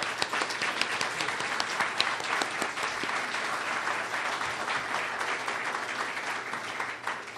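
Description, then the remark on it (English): An audience claps steadily, a dense, sustained patter of applause that holds at an even level for several seconds without anyone speaking over it. “Maybe a round of applause might be in order at this point.”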